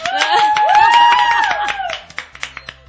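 A short round of applause from a small group in Sant Feliu, with a sustained whooping voice over the clapping at first, then thinning to a few scattered claps.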